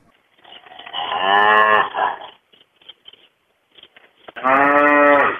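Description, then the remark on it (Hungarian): Oxen low twice, loudly, at a farm demonstration of ox-powered machinery: a long, drawn-out moo, a pause filled with faint scattered knocks and clatter, then a second deep, sustained moo. “És akkor így vannak tanítva az ökreink.”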